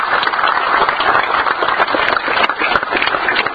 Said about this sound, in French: Et avant de tout d'abord, féliciter les camarades, applaudir tous les camarades qui avaient nos beaux matins. Parce qu'on est content.